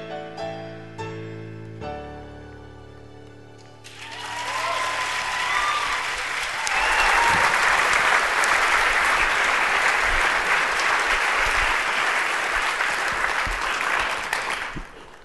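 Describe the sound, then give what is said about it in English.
A sung piece ends on a few held, resonant notes, then loud audience applause and cheering swell up and continue steadily for about ten seconds before fading slightly. “It's good you applauded, because that was the last chance he'll get to hear any applause, because at the end of that song, that final note, Javert commits suicide.”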